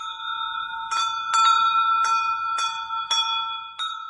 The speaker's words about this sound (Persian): صدای زنگوله دوباره نزدیکتر شده بود. چهارتایی با دقت گوش دادن.